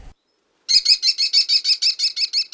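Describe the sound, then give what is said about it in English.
A rapid series of about a dozen shrill, high-pitched calls, evenly spaced and loud, from an American kestrel perched on a wire, a repeated klee-klee-klee, with no one talking. “It's a kestrel perched on the wire there.”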